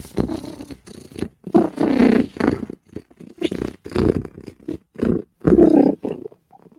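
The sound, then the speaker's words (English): Deep, rumbling purrs from big cats, coming in a steady series of breathy pulses, fairly loud, with no talking. “Hey, you big purr bitches.”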